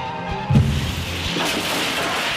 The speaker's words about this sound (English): It's quite ridiculous. The taxi has smashed into a tree at full speed.